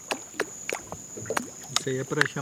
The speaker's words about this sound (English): he starts flicking the water with his fingers